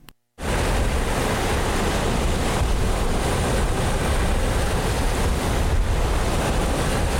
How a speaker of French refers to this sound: J'entends le fracas des vagues contre la carcasse du ferry. Je sens le roulis régulier.